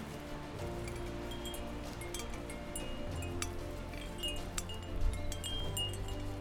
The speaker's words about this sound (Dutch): Ja, nu is dat heel winderig.